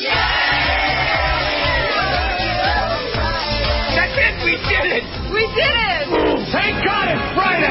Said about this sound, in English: You know, the kids just cheered for Irma. I don't know if that's appropriate.